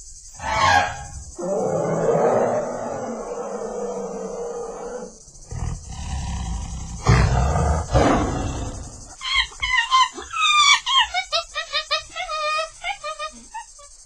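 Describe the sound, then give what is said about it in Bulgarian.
A man vocally imitates animals in turn: a long trumpeting blast like an elephant, a deep growling roar like a tiger, then rapid high-pitched chattering whoops like a monkey, loud. “Сега имитирай слон, тигър и маймуна.”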